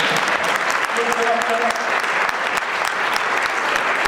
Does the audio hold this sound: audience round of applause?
yes